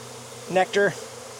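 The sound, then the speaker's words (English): Honeybees buzz during a hive inspection of a drone frame in two short, rising-and-falling bursts, a harmonic droning whine that swells then fades, over a faint steady low hum with no talking. “Nectar, they're using the drone frame as nectar, which is good.”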